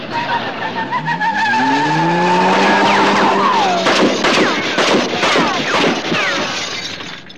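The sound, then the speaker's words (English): A car engine roars and climbs in pitch as tires screech, then a rapid burst of sharp, loud cracks and bangs follows as the car speeds away. No one speaks. “'99, there was something very strange about that car.”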